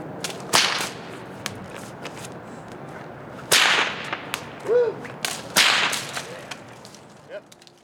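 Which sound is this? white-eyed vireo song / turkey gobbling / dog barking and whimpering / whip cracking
whip cracking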